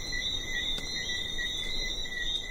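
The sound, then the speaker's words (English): A dense nighttime chorus of small frogs on an island, a continuous high-pitched trilling wall of sound that stays steady and fairly loud throughout, with a faint low rumble of breeze beneath and no voices. “There's just the sound of the breeze and these little frogs that come out at night and chorus all over the island.”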